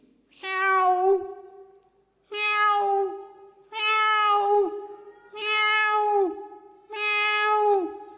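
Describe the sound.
Five drawn-out, tonal cat meows in a steady series, each lasting about a second with short pauses between. They are loud, with no talking.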